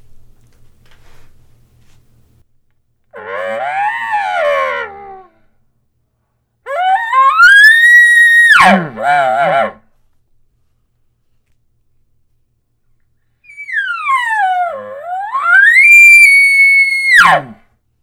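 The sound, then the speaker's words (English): An elk bugle imitated with a game call, sounded three times: each rises into a loud, piercing whistle before dropping away, one ending in rough grunting pulses, with no talking in between. “Now that was me.”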